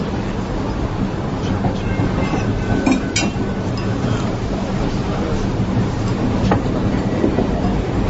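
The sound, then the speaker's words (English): A train rumbles steadily along the rails, heard from inside a carriage, about 10 minutes before arriving at Venezia Santa Lucia station, the end of the line; a low constant roar with a few sharp metallic clacks and knocks breaking through now and then. “Arrival at train station Venezia Santa Lucia in 10 minutes, end of the line.”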